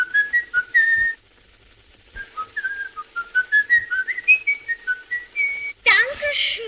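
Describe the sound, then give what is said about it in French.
A man whistles Edvard Grieg's In the Hall of the Mountain King melody, as in Fritz Lang's 1931 film M, where the child killer M whistles it: a clear tune of short rising and falling notes in a steady rhythm, broken by a brief pause, then ending in a sudden louder burst. “Dans M le Maudit, sorti en 1931, la mélodie d'Edvard Grieg est sifflée par M, un tueur d'enfants.”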